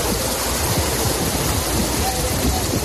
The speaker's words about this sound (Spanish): Todos los locales y garajes aledaños y, bueno, el agua baja por la calle de Acacias y todo por donde se puede meter, pues en todos los sitios que ha podido meterse se ha metido, claro. Es un torrente de agua que no se puede ni cruzar por la calle.